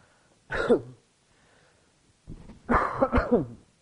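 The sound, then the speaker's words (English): A single harsh cough, then after a short pause a quick cluster of two or three more coughs and throat-clearing, with no speech, from a person getting over a cold. “Excuse me, I'm sorry, I'm getting over a cold and my voice is there, but not quite, so you have to excuse coughing.”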